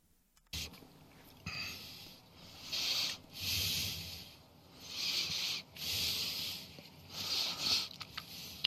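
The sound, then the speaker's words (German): An animal snorts and huffs heavily while sitting, a series of about six breathy, hissing exhalations in an uneven rhythm, each lasting under a second, with no talking. “Schnaufen beim Sitzen.”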